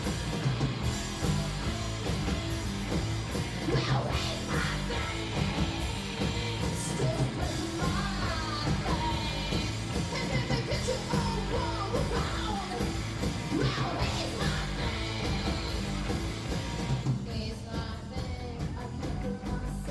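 Loud, dense punk rock plays continuously, with driving distorted guitars and pounding drums under raw, shrieking vocals that yell across the whole stretch before the band thins briefly near the end.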